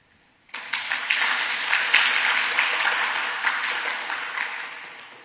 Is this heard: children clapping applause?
yes